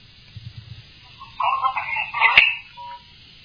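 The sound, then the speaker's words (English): A muffled, tinny phone message recording of indistinct sounds over a low rumble, broken by a sharp snap and followed by one short, steady beep as the message ends abruptly. “And the beep at the very end, is that like the end of the phone message?”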